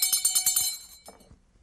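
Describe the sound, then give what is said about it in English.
Henrietta Pussycat's small bell rings in a quick, steady series of bright jingles for under a second, then its shimmering tone fades away. It is clear, with no talking over it. “You're not talking because of this bell?”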